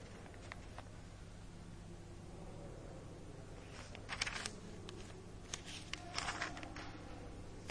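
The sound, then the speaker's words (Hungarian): Thin pages of a Bible rustle and flip quietly as it is turned to 2 Corinthians, with a few crisp bursts clustered toward the end over a low steady hum. No one speaks. “Egy Korintusban, és én 2 Korintushoz lapoztam, tehát 1 Korintus 6-tól fogjuk olvasni, de előtte csak gyors definícióként 4-1-től olvassuk.”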